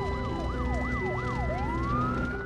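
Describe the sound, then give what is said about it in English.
Sirens of two fire engines driving up to a burning stable at a house blare in a quick repeating yelp that slides into a long rising wail, loud and steady over a low engine rumble. “Two fire engines drive up and firemen leap into action.”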